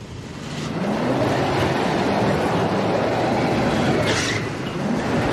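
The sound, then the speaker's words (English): A car engine strains and revs loudly and steadily as the car is forced through a narrow gap between two parked cars, with a broad grinding, scraping noise of bodywork running underneath and a brief sharper burst of scraping near the end as a parked car's front bumper is ripped off; no one speaks. “Lucas looks alarmed as Jacques revs and muscles the car through the gap, scraping the bodywork and ripping the bumper off the front of the parked car.”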